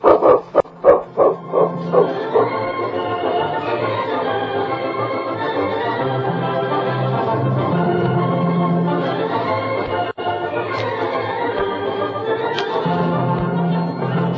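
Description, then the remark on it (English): A dog gives a rapid string of about half a dozen loud barks at the start, followed by a long, steady stretch of wavering tonal sound with no talking. “I never thought about that dog of yours.”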